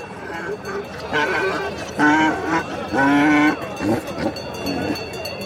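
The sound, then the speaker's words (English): Sheep and goats bleat repeatedly in loud, wavering cries, three or four prominent calls within a few seconds, over a steady murmur of voices and bustle at an open-air livestock market on a hill, where the animals are being inspected and offered for sale. “On a hill on the other side of the encampment, there are donkeys, sheep, and goats being inspected and offered for sale.”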